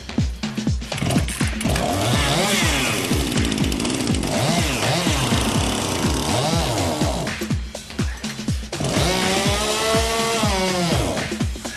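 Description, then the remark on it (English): A chainsaw engine powering a team-built vehicle's drive system roars loud for the whole stretch, its pitch repeatedly dipping and climbing as it bogs under load and revs back up, with a brief lull near the end. “Will their chainsaw have enough pulling power?”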